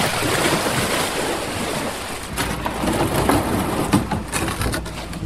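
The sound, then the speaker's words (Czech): Steady water splashing and sloshing as a man from Příbram and his son push their boat off from a riverbank, with sharper splashes and knocks in the second half and a light wind rush behind it. “Chystá se tady právě odrazit od břehu”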